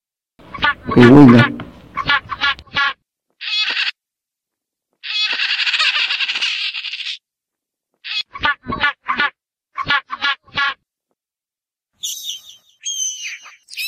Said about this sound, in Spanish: Gaviota.